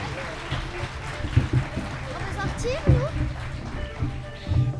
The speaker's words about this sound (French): Nous sommes en direct depuis la salle des fêtes d'Écourt-Saint-Quentin pour ce grand débat des présidentielles à l'école. On a du public avec nous. On va vous demander d'applaudir pour qu'on vous entende.